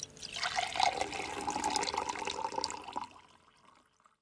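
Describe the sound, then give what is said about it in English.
Water pours steadily into a glass for about three seconds, a close splashing gurgle with a faint ringing tone, then trails off into quiet. No one speaks. “Can I have some water, please? Yes, here you are.”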